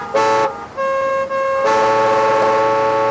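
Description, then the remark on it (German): Several loud car horns blare over one another in present-day Beijing rush-hour traffic, some short toots and some long sustained honks, with steady traffic noise underneath and no talking. “Das einstige Fahrradparadies ist zu einer Autohölle geworden.”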